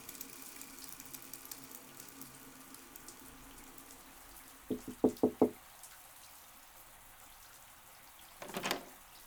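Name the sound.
shower water running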